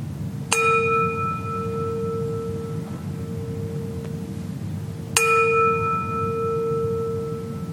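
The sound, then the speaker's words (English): A gong is struck twice to signal the end of a meditation, about five seconds apart, each strike blooming into a clear, sustained ringing tone with bright overtones that slowly fades over a low background hum. “I will now ring the gong to signal the end of the meditation.”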